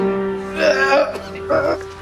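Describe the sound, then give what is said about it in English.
A boy with Down syndrome choking during a piano lesson after putting something into his mouth: two strained, gagging vocal bursts, fairly loud and harsh, separated by a brief pause, over a steady low background hum. “The boy starts choking.”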